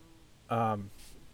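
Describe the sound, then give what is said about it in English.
A bee buzzes loudly close to the speaker's ear outdoors in one brief, steady droning burst, then quickly fades away, leaving quiet outdoor background. “Oop, we've got a bee kind of buzzing by me here.”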